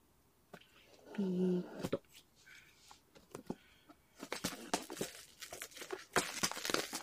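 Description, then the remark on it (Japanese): Plastic packaging on a product box is snipped open with scissors: sharp cutting clicks and crinkling wrap, sparse at first, then a busier burst of rustling and snips toward the end. A brief low hum sounds early on. “じゃあ早速開けていきたいんですけど、これビニールハサミで切った方がいいかな。”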